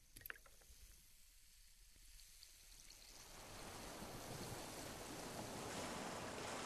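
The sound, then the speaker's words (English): Atlantic sea waves wash and splash around a boat on its way to Cape Clear, starting quieter and swelling into a loud, continuous rush of water and spray that fills the second half with no voices. “So now we're on the boat to Cape Clear and everyone's there. The sea spray from the Atlantic frizzing our hair.”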